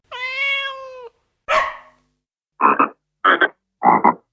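green frogs croaking

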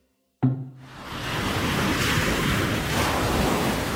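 ocean waves

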